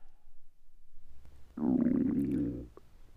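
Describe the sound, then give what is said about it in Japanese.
A hungry stomach growls once, from someone who has eaten nothing since lunch the day before. It is a low, drawn-out gurgling rumble lasting about a second, heard alone after a near-silent stretch and fading quickly. “腹減った。よく考えたら昨日の昼から何も食ってねえじゃん。”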